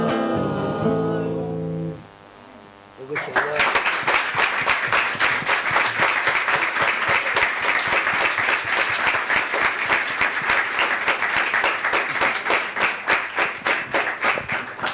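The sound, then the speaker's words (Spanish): A choir of young people gives its final sung chord, which rings out and stops, then the audience bursts into loud, sustained applause for the choir, dense rapid clapping that continues steadily to the end, at an event broadcast by LT11 Radio Nacional de Concepción del Uruguay. “Un aplauso de vuelta muy fuerte para los chicos.”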